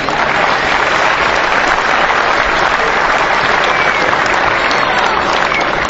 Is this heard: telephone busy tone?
no